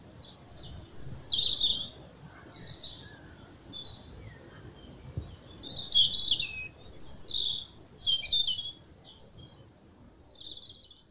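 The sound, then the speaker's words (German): Several birds chirp and twitter in quick, overlapping bursts, bright, among fields and meadows, with a soft low outdoor rumble underneath and no voices. “Dein Weg führt dich wieder zwischen Feldern und Wiesen, begleitet vom Gezwitscher der Vögel.”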